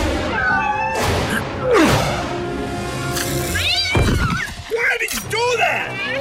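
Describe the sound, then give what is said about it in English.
Kittens in a narrow ravine hiss at a cat blocking their way in several sharp, breathy bursts, mixed with high, wavering mewing cries, all fairly loud over a busy background. “When they hiss at him, he decides to make himself look cute, widening his eyes in an appealing manner.”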